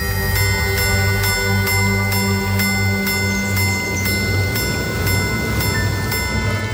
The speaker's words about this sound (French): Ça signifie qu'on peut faire sonner les heures, les quarts et les minutes si on le demande. Ce mécanisme très complexe se sert de marteau à l'intérieur du boîtier pour faire vibrer des timbres cathédrales, des sortes de cloches.